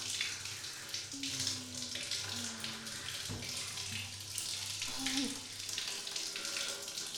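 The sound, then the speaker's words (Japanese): Tap water runs in a steady, broad hiss with splashing as foam is rinsed off someone who is told to keep their eyes shut, interrupted by brief tonal squeaks and a sharp knock partway through. “しっかり流さないとね。この泡が残りやすいから。”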